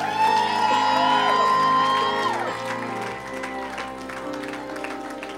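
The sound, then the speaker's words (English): An audience gives Jesus a victory clap offering, breaking into loud, sustained applause, with whoops and cheering shouts rising over the clapping, and music or tones sounding underneath before the noise gradually eases. “Let's give Jesus a great big victory clap offering today.”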